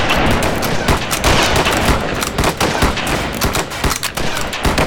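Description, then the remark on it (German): A sustained volley of rifle fire, fired on command during shooting practice, many sharp overlapping shots cracking in rapid, irregular succession for several seconds, loud, with no voices. “Anlegen. Auf mein Kommando. Warten können, Schuss. Bis die Schussbahn frei ist. Feuer!”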